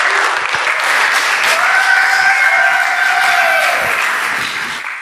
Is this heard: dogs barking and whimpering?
no